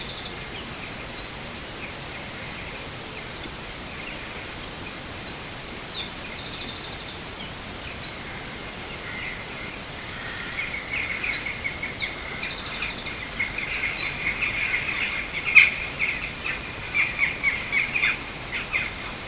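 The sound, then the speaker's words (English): Many birds around Oilgate sing and chirp together in an outdoor dawn chorus on a summer morning, overlapping calls with a steady faint background, no voices present. “The recorder was set to record at dawn, and what came about was a chorus of birdsong on a beautiful summer morning.”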